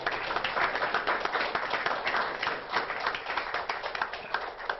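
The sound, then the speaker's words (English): A group applauds steadily as a vote of thanks at a meeting, many hands clapping into a dense, continuous patter that stays fairly even in loudness for about five seconds. “And so I do think a vote of thanks and a round of applause.”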